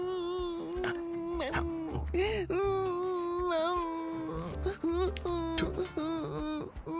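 A baby wails and whimpers, a loud, drawn-out cry with wavering pitch that keeps going for several seconds, breaking into short sobbing catches toward the end.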